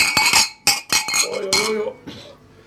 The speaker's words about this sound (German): Du musst laut, anstoßen. Ja, trotzdem anstoßen. Glas an Glas, es wird hinhauen.